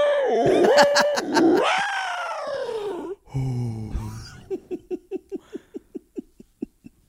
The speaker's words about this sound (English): Have you ever listened to things in space? I love that when they do the things, the recordings of like a black hole. Oh, in yeah. Space. Oh, the sound it makes. I love it. It's freaky.